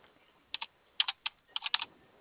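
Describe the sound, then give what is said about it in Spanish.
About ten sharp keystrokes tapped on a computer keyboard in short, irregular bursts, fairly quiet, with no talking and only faint background hiss between the clicks. “Espéreme, dije pido autorización para hacer la apertura por teclado.”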